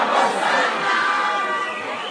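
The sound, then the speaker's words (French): A dense crowd surrounding the governor clamors all at once, many overlapping voices shouting and calling in a continuous, loud wash of noise with no pauses or single clear speaker. “La foule l'entoure.”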